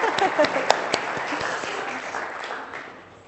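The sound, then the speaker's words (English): A group claps together in a dense patter of many hands, loud at first with a few sharp louder claps, then gradually thinning and fading out over about three seconds. “Let's give them a clap.”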